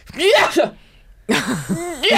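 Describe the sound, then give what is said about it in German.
A person vocally imitates a dog's wet, spluttery sneeze twice, fairly loud, with a short pause between the two bursts of breathy, voiced noise. “Und bei meinem Hund wäre das, bei Balu wäre das angebracht, weil der niest wirklich so.”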